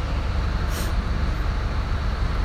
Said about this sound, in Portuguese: Encostou um ônibus aqui do lado agora. O tamanho da roda dessa porra, rapaz. Isso aí é gigante. Isso aí é louco.